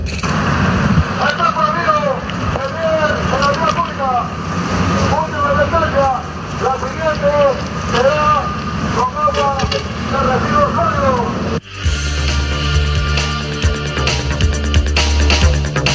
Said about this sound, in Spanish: Enseguida el Huascayacu entra en acción, advierte a retirarse del lugar de la cuenta regresiva para luego lanzarle chorros de agua.